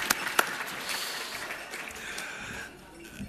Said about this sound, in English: So give yourself a round of applause for showing up at the right venue, I think.